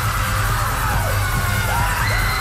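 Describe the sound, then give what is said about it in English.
Several high, swooping screams rise and fall over loud, dense music with a steady low thump, like a group of people yelling and whooping together. “Well, some of those screams sound more like roller coaster riders screaming.”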